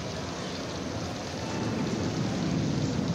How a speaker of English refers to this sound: Cover all the equipment. Hey, if you think really hard, maybe we can stop this rain.